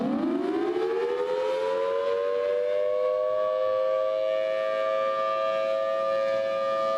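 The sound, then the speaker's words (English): An outdoor storm warning siren winds up from a low pitch into a loud, sustained wail that holds steady, with harmonic overtones ringing over the whole stretch and no voices. “what should people do when they hear the storm sirens?”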